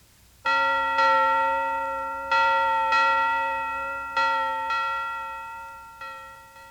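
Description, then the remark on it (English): A church bell rings out in a steady, unhurried rhythm, seven loud strikes falling roughly in pairs, each tone lingering and blending into the next. No voices accompany it. “Did you circle the church bell?”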